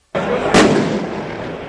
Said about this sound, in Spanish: Bastante gente, desde luego, secundando el sonido de petardos a lo largo del recorrido y piquetes en zonas industriales.